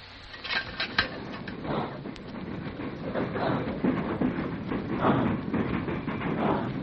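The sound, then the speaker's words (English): A steam locomotive runs steadily in reverse, a dense, loud mechanical rumble with clattering metallic clanks and a faint chugging rhythm throughout, with no voices. “Now we'll see how this engine runs in reverse.”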